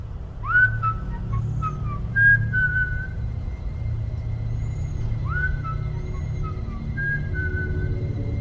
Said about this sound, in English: Still smiling, the clown lifted its mouth up to the crack in the window glass. It drew a deep breath, and it whistled a familiar tune.